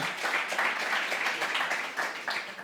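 Steady applause from a crowd, a dense wash of many hands clapping at once with no pause, holding an even, fairly loud level throughout the short stretch.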